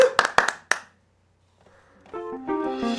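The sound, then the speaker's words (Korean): A few sharp, scattered audience hand claps, asked for before a song, ring out at the start and quickly stop, followed by a short silence before tonal music with sustained notes begins and grows louder. “네, 박수를 청해 듣겠습니다.”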